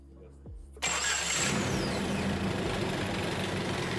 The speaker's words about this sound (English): Oh, that is just lovely. The engine does not care how much oil is in the sump. It's running even though it is at idle. Is it actually gonna keep running?